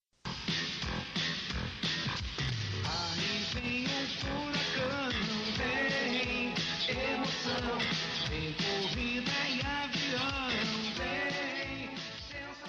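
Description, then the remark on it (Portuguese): Upbeat theme song intro from the animated series DuckTales: a full band plays loudly and continuously, with bright melodic lines over a steady, driving beat and no talking. “Esses são os DuckTales, os caçadores de aventura.”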